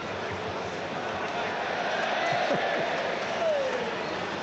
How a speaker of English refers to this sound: There's the first use of this spray at the Goodison Park this season. I wonder when it will stop getting a cheer.